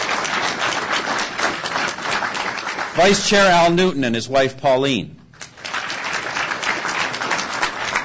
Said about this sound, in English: Vice Chair, go ahead. Go ahead, everybody. Give them applause.